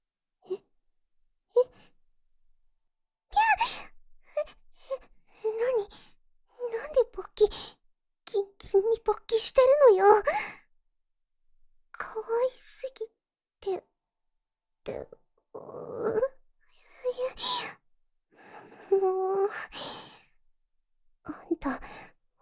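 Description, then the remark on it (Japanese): Heavy, ragged panting comes in irregular bursts of breathy gasps and sighs, some of them voiced, separated by brief pauses, like someone badly out of breath. “え、あんた何ハーハー息切れしたみたいにハーハーして。”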